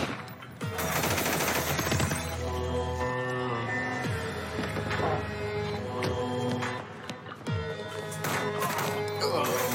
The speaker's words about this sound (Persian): داداش صدای شلیک میومد، دارن تیراندازی میکنن.